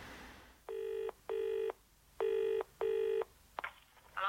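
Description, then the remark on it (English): A telephone being dialled in a phone box: two pairs of steady, buzzy electronic tones, followed by a sharp click and a brief rustle. “I'm in the phone box.”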